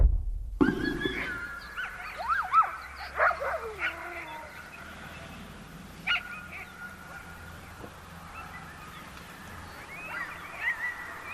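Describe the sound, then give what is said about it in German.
Bored dogs in Greenland whine for food on the national day, 21 June, in high, sliding cries, several drawn-out whimpers overlapping early on, then fainter intermittent whines over a low outdoor rumble. “Junge Menschen tragen traditionelles Gewand, Kinder fahren Rad, Männer spielen Fußball und gelangweilte Hunde winseln um Fressen.”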